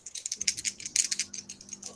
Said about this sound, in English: Oh, why did I roll dice? Hey, you can if you want. Well, I got 34.